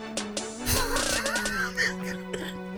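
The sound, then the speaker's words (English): A sharp cough bursts out near the start, followed by a few rougher throaty sounds, all over a steady humming background tone. “You got me coughing.”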